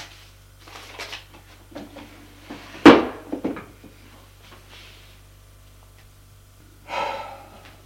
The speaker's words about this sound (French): Ouvre le tiroir de son bureau. prends des feuilles de papier et un stylo.